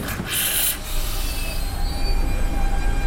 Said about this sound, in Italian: Il treno è già qui, arriva sempre prima, quindi abbiamo la scelta.